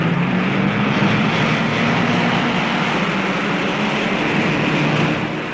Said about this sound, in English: And now, listeners, everything's in readiness for the start. All the cars are revving up, each waiting for his signal to go. Any minute now. Yes, the first one's off. The Monte Carlo rally's underway.